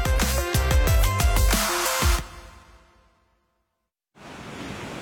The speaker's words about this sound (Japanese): 私、広瀬アリスは今海に来ています。風が気持ちいい。実はここも戸田建設の現場。風力発電をなんと海に浮かべたんです。日本初なんですって。